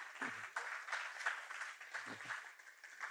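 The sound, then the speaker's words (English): A church audience applauds its community group leaders and hosts, who are standing, in a dense, steady wash of clapping that holds at an even level for the whole stretch, with a couple of brief low vocal sounds mixed in. “You can applaud them.”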